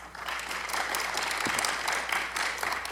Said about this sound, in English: And please applaud. It stretches the show out.